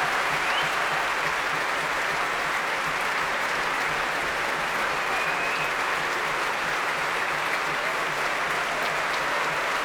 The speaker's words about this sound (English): He's back on the stage. He wants the orchestra to take a bow, but they won't because they are applauding him.